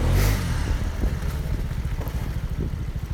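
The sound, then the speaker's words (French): A small scooter engine revs, its low motor hum pulsing rapidly and unevenly, with a gust of wind buffeting the microphone at the start, as the scooter slips on a snowy street while being parked on rue Jourdain. No one speaks. “Mon scooter glisse.”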